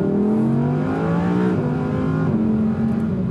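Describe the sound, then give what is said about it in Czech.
An Audi R8 V10 Plus engine accelerating hard on a road, its loud, continuous roar climbing in pitch, dipping briefly at a couple of gear changes before pulling upward again. “Sice mě tady často seknou jen na 120, ale i tak nacházím řadu úseků, kdy výkon Audi R8 V10 Plus rozbalím do nesmyslu.”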